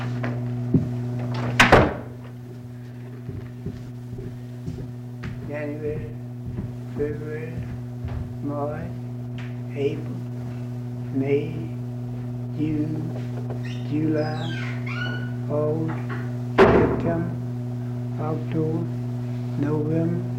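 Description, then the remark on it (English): A man shuts a door with a solid thunk near the start, then another firm close later, over a steady electrical hum with quiet voices talking in the background. “Okay, and he was shutting the door while you were saying the one after August.”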